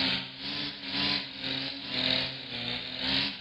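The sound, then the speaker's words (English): A string trimmer engine runs steadily, its buzzy drone swelling and easing about once a second over a rough, raspy wash of noise. No one speaks. “Here's the weed eater one more time.”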